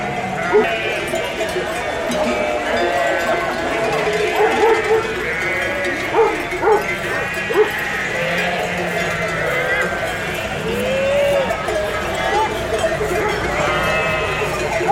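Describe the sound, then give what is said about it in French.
A dense chorus of ewes bleating continuously, mixed with the clanking of many cowbells from a herd of Gascon cows, as several herds arrive and are sorted at the Cirque de Campulse, busy, with a dog barking now and then and voices in the background. “D'un côté, les vaches gasconnes, et de l'autre, les brebis.”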